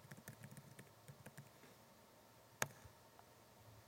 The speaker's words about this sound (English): I'm not typing well today either.